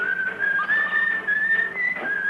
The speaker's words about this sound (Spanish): Un obrero sube silbando por un talud hacia el puente.